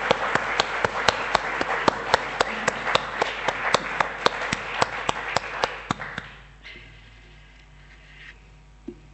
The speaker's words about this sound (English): So I think if we all show our appreciation with a round of applause to all those who did that. Thank you.